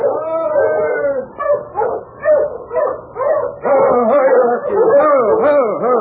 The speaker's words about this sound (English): As Jenkins stood watching the great husky circling, sniffing, and whining, he heard another dog team approaching from up trail.